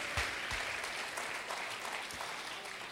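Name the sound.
audience applauding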